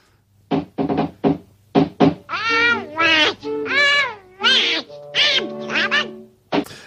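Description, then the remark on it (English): A person imitates a cartoon duck's quacking voice: a few short, raspy squawks, then longer warbling, garbled quacks, loud and close with no other sounds. “That's how Donald Duck's... I can't do it. I can't do his voice.”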